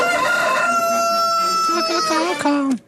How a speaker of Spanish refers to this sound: De radio se escucha el gallo de Radioactiva.